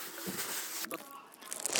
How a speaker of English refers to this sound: I'm just going to, oops, what's that paper bag? Plastic bag on the floor.